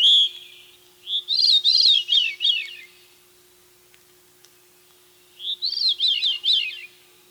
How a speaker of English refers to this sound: Veeries, small thrushes related to robins, may very well be saying veery.